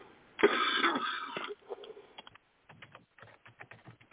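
coughing

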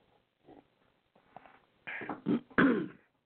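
coughing and throat clearing

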